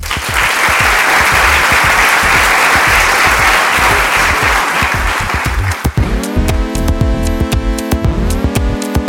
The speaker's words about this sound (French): Pour répondre à cette question, nous accueillerons trois témoins ici présents au premier rang, qui comparaîtront à la barre en quelques instants pour exposer leur version des faits. Je vous prie de bien vouloir les applaudir.